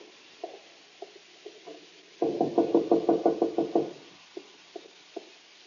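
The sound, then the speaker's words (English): Knocking on a wooden door: a few light, scattered taps, then a loud, rapid burst of about ten raps lasting under two seconds, followed by more soft, spaced taps. No voices. “This time I won't knock. I'll open the door myself.”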